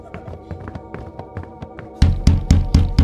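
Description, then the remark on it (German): Heavy footsteps climb the stairs in a steady rhythm, soft and muffled at first, then suddenly much louder as thudding steps arrive, with a faint humming tone underneath. “Aber ich glaube, ich höre jemanden die Treppe raufkommen.”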